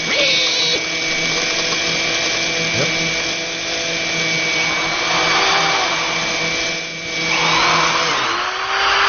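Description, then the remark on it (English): A meat grinder's motor whines loudly and steadily, its pitch briefly faltering and straining as the blade catches on a piece of bone, then running on. “That was a bit of bone that got caught in the blade.”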